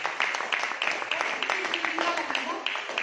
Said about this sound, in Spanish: Amén. Este versículo se merece un aplauso. Dame un aplauso.